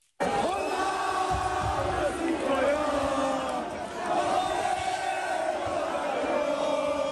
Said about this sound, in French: Des cris de joie, des chants et même des coups de klaxon.